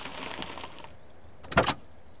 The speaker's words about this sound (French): C'est alors qu'une autre voiture arrive.